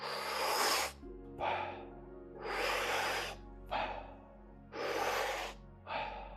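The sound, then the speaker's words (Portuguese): Steady, audible breaths alternate in and out in a slow, even rhythm, about six breaths in a row during a guided breathing exercise, with a low hum underneath. “Presta atenção à respiração e encontra o teu ritmo.”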